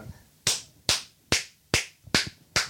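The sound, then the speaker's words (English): Six sharp hand claps, made as a sync marker for editing, come in a steady, even rhythm. Each is a crisp bright smack with a short decay, and there is no talking in between. “Okay, but let's clap so I know where to go.”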